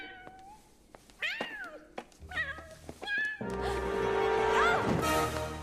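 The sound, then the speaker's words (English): A cat meows repeatedly from inside a wooden cage in short, rising-and-falling cries, fairly loud, with a few dull knocks between them and a steady low hum building toward the end. “Come here, kitty!”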